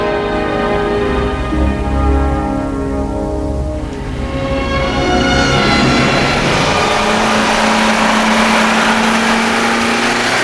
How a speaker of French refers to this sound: Cliff se déplace toujours avec son scooter. Un soir, en allant chez Doc, comme tous les vendredis, il va arrêter son scooter devant un immeuble qui est un peu plus loin que celui où habite Doc, parce qu'il n'y a pas de place pour se garer.